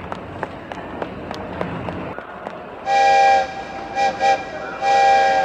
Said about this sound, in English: Hey, wait a minute. There goes my train.